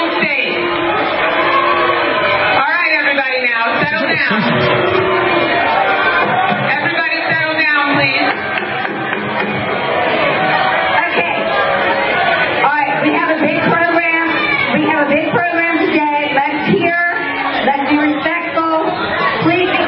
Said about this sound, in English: So let's go ahead and play Debbie Wasserman Schultz booed and heckled at Florida delegation breakfast at DNC.